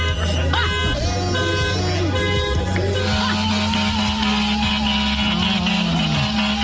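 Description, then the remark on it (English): A dense, continuous chorus of car horns blaring over one another, sustained and loud throughout, with several overlapping tones that never let up, as a crowd of people honk in front of the mayor's house in New York City in the middle of the night. “And a bunch of people in New York City went in front of the mayor's house, said, hey, if we're not going to sleep, you can't sleep, started honking the horns. This is what it sounded like in the middle of the night.”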